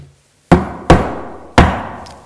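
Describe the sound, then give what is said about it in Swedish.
Three loud, solid knocks on wood in an uneven rhythm with a short gap after the first two. Each hit rings briefly before fading, with no talking. “Skulle ni knacka en gång?”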